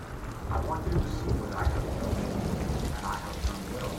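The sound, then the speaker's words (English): A heavy rain downpour pours down in a steady, dense hiss, with low thunder rumbling underneath throughout, loud, as lightning flashes at the entrance to a shaman's vision quest. “As she goes inside, the rain becomes a downpour. Lightning flashes.”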